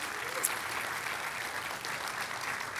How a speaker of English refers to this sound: They did a great job. So one more time, round of applause for them.